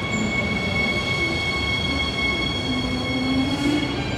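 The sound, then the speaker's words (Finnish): A train rolls into platform 12 of a station with a loud, steady rumble and persistent mechanical hum, a rising metallic whine from the wheels building near the end. No one speaks. “Et mehän saatetaan olla silleen, että se juna ei tuu ihan just tähän meidän kohdalle, koska tässä ei ole muita.”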